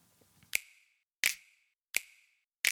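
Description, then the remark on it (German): Crisp, bright finger snaps from two snap tracks in a music mix, heard together, repeat at a steady, even pace, four in all, each with a short ringing tail; one snaps undynamically with the same power each time. No voices, over a faint low murmur before the first. “ist es aber so, dass dieser eine Schnipser hier ziemlich undynamisch einfach vor sich hin schnippt, also immer quasi mit der gleichen Power und dass sich dann natürlich in die Quere kommt mit dem anderen Schnipser.”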